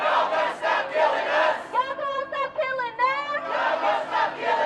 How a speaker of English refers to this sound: Yet the protesters' primary demand runs the deepest. The demands reflected in the chant, "Y'all gonna stop killing us."